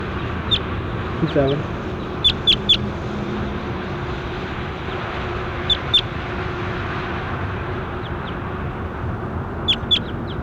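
bird calling outdoors

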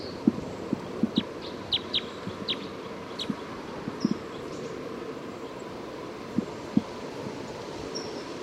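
bird calls

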